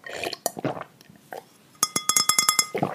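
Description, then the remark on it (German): A few soft gulping, slurping sounds of sipping water, then a quick run of about eight bright, ringing glass clinks in steady rhythm, each with a clear high tone, followed by a final swallow. “Ganz kurz, wir trinken jetzt alle erstmal einen Schluck.”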